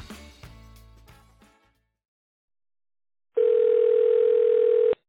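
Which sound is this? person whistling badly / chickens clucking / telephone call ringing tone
telephone call ringing tone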